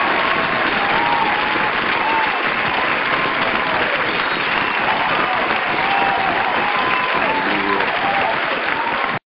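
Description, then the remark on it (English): A large audience claps steadily and loudly for several seconds to welcome a speaker, with scattered cheers and whoops rising above the dense wash of applause. “I love that applause.”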